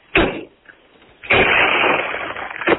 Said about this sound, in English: I'm going to break windows in my wife's car, and for the finale, I'll shoot the front windshield out with a shotgun.